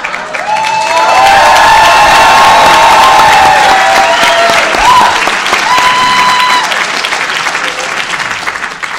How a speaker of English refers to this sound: And Bob got more applause than I did.